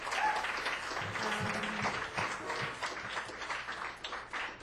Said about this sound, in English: To these guys for coming along the ride with me. Please give them another round of applause.